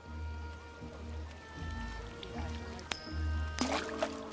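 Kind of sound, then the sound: nature, water splashing and sloshing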